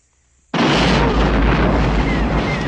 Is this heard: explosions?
yes